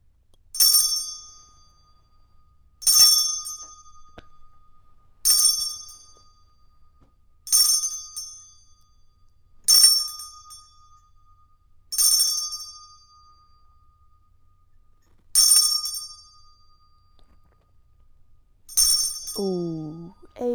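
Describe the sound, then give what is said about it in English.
A bright, ringing chime is struck eight times at a steady, unhurried pace, each clear metallic tone fading before the next, with a brief voice sound near the end. “I will now ring the chime.”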